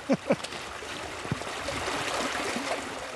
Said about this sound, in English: It's a foot-deep stream, cold and clear as glass. Native trout begin life here.